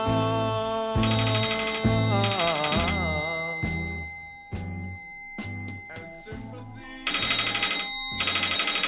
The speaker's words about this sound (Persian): ساعت 6 صبح صدای زنگ تلفن مارگارت و جان رو از خواب بیدار میکنه.